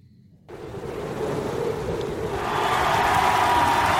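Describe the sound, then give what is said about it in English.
A large crowd, including mounted police officers, roars and claps after a brief silence as comedian Joe Mandy marches out at the opening of his album; the dense wash of cheering swells steadily louder and continues without a break. “The horse cops are clapping.”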